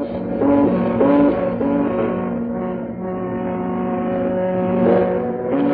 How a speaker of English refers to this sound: And so is the hooting of the ships in the harbor of Liverpool and Merseyside and Hull.